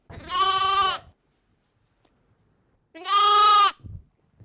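Two loud, wavering sheep bleats, each lasting under a second, separated by a few seconds of quiet, as the sheep are being fed by their farmer. A few soft low thumps follow the second call, and no one speaks.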